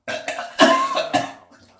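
Someone vomiting: a few loud, strained retching heaves in quick succession, each a rough, throaty gagging burst, the last one trailing off into a faint, wet gurgle.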